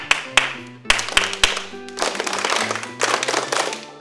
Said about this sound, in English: What about when the class is loud and the teacher has to clap a pattern, and you all clap it back? Do you think that's a rhythm? Yes! That's right. It is a rhythm. Like this.